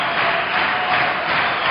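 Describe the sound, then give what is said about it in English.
A capacity crowd of 4,000 in Avery Fisher Hall at the Newport Jazz Festival roars steadily in a standing ovation for a musician and friends, a dense wash of cheering over a low rumble of stomping feet as they call for more, loud and continuous without any pause. “They're calling for more. People are standing and stomping.”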